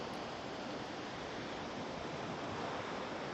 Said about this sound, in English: Listen and relax as the waves come one after another on the beach.